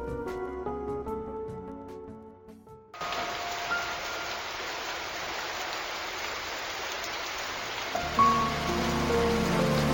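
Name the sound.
rain falling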